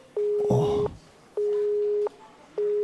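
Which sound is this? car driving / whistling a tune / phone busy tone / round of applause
phone busy tone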